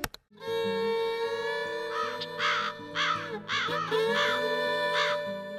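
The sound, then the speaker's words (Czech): Magpies give harsh, raspy chattering calls in four or five loud bursts, heard over a steady, droning musical background with shifting low notes. “Svrake, koje u jatima zaposedaju skladove, često su zvučna međa i granica između dva poseda.”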